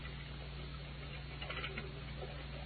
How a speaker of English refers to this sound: I'm drenched to the skin. How long do we have to stand here in this beastly rain?